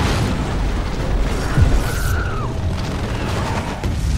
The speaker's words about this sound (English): Enemy planes are flying overhead. Soldiers are parachuting in. I think one of the planes crashes into a house and there's a big explosion.